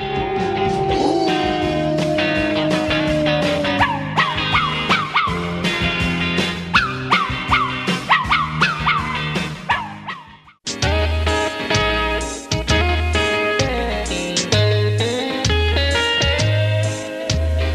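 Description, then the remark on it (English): Dogs barking and cats meowing, yelping calls and rising, wavering meows over steady, loud music, which breaks briefly midway and resumes with a thumping bass beat. “Listen to the bow wows and meow.”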